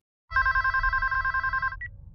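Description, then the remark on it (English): A telephone rings once in a loud, trilling burst lasting about a second and a half, then cuts off abruptly over a low rumbling background. “Strange that you and I have never spoken on the phone.”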